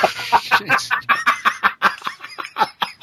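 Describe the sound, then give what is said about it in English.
A person imitates a squealing pig with a rapid run of short, high-pitched squeals and grunts, about a dozen bursts in quick succession, loud. “Yeah, the one time in the show is when he's squealing like a pig.”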